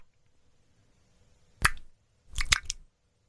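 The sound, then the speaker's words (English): A wet, squelching squish like an eye popping: one sharp moist burst, a short pause, then a quick cluster of sticky squishes, fairly loud over near silence. “That was eye popping.”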